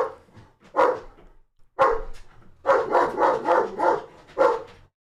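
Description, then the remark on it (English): A dog barks repeatedly, starting with a few separate barks and then breaking into a rapid, loud run of barking before one final bark. “I don't mind when he barks at people.”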